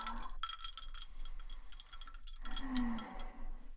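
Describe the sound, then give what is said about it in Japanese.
A glass of carbonated cider soda fizzes steadily, a dense crackle of tiny popping bubbles, with a faint glassy clink partway through. “夏はサイダーだね。”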